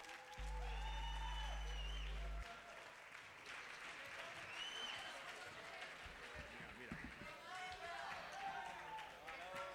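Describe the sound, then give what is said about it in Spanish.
A crowd applauds steadily for a band being introduced, dense clapping mixed with scattered cheers and whistles, while a loud low hum drones briefly near the start. “Un aplauso para ellos.”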